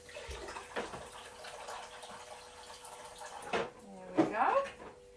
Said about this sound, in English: Then we put the cold water in it and cover it. Cold water! Cold water! Okay, so let's put a bit of cold in it.